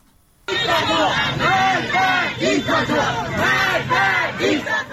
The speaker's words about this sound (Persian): تصاویری که در شبکه‌های اجتماعی منتشر شده گروهی از معترضان را نشان می‌دهد که شامگاه شنبه در مشهد شعارهایی از جمله مرگ بر دیکتاتور سر می‌دهند.